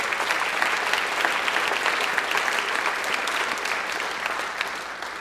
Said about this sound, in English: Let's give our exec a round of applause.